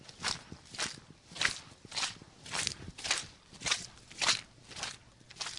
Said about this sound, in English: Roll out of bed at 6 a.m., pour a thermos of coffee, pull on the boots, and slog through the head of Mud Bay.